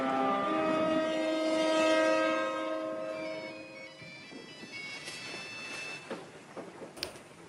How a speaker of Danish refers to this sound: Ja, det vi hører nu, det er jo den klassiske gamle Nokia-ringetone.